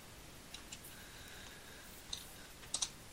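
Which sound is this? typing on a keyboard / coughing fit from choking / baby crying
typing on a keyboard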